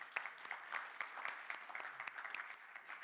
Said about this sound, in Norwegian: Kan ikke vi bare gi deg en stor applaus?